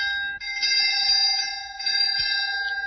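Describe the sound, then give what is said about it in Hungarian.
A school bell rings continuously with a bright, steady, metallic ring holding several sustained tones for the whole three seconds, loud and unbroken, signaling the end of break. “Éppen idejében mondta el varázsversét, mert véget ért a szünet, becsengettek.”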